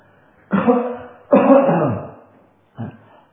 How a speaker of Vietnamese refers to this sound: Ví dụ như năng ho sở ho, đây là tôi đang ho đó, là năng ho sở ho.